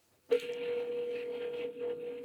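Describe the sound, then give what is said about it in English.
A telephone being dialed to call a property management company: a steady, unbroken electronic tone starts abruptly and hums on at an even level over a faint hiss, clear, with no one talking. “He picks up the phone to follow up with a property management company that hadn't returned his call from the week before.”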